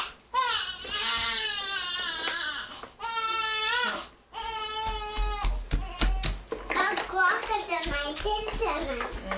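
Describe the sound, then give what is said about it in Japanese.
A baby cries loudly in long, wavering wails with brief breaths between them, followed by sharper sobbing bursts mixed with scattered taps and handling noises. “もう泣いてないよ。”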